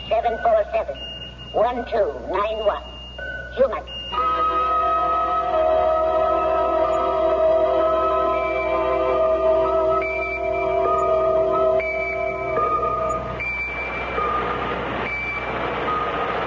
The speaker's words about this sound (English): What the hell is that noise? Oh, sorry. I've got a pocket alarm watch, and it keeps trying to tell me something. Wait. That better? Well, it's a relief. Sounded like it was trying to climb into my pocket.